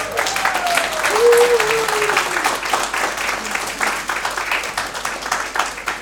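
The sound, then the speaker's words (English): An audience at a morning service breaks into warm applause for a newly married couple, many hands clapping in a dense, steady patter that holds fairly loud for about six seconds, easing only slightly toward the end. “A round of applause for the newly married couple.”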